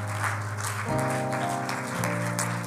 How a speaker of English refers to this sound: In Jesus' name, can you clap your hands one more time to the Lord and love him tonight?